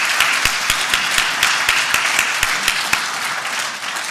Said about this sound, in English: But also I just want to give a very warm welcome also to our new members who are attending the conference today for the first time, and hopefully it will be the first of many. Today's, and they deserve applause, yeah.